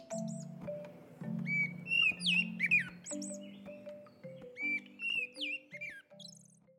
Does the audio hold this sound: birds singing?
yes